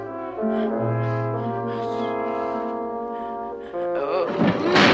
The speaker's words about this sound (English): The ladder slides to the floor.